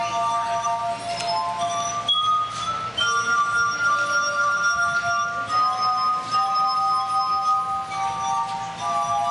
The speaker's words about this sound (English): In fact, could you just like dub in someone playing musical glasses wickedly? Yes, I will do that.